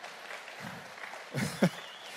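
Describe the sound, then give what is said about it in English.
A brief patter of light audience clapping for the speaker's mother, seated in the front row, soft and scattered, swelling slightly with a couple of sharper bursts near the end before fading. No one speaks. “you can clap for her.”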